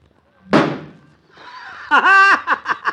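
A golf ball hit down a broad street smacks into the door of a car parked across the street, putting a big dent in it, with one sharp, loud thunk that rings briefly and fades, followed a moment later by someone's burst of laughter.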